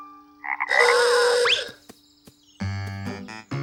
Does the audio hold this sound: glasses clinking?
no